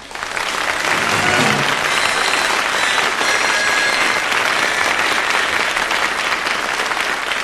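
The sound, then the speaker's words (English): Steady, dense applause from the studio audience of the Clitheroe Kid show starring Jimmy Clitheroe fills the whole stretch, loud, a continuous wash of many hands clapping without pause. “we present Jimmy Clitheroe as the Clitheroe Kid, with Peter Sinclair, Patricia Burke, Leonard Williams, Danny Ross, and Diana Day in...”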